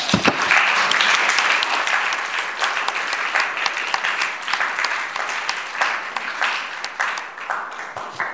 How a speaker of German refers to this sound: Also wir haben zunächst mal ein herzliches Willkommen und Dank an dieses illustre Panel auszurichten, und ich möchte Sie bitten, das vielleicht auch mit einem kleinen Applaus zu machen.